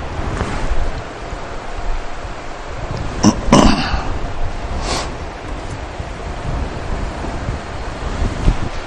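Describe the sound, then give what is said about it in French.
Wind buffets the microphone with a steady low rumble, and a stronger gust surges briefly in the middle before settling back into a constant outdoor whoosh. “Il m'a fait décoiffer un peu, là, hein? Il y a le vent de l'esprit, là, qui est...”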